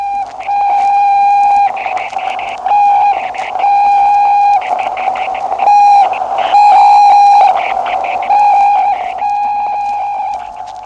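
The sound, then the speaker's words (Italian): Satellite radio signal transmission from a satellite carrying living beings (mice, flies and two dogs, Ciolca and Musca): a loud, steady electronic tone with buzzing harmonics, switching in rhythmic on-off bursts about every second, with no voices. “All'interno del satellite che sta trasmettendo questi segnali ci sono degli esseri viventi, topi, mosche e 2 cani, Ciolca e Musca, protagonisti di un volo che non avrà ritorno.”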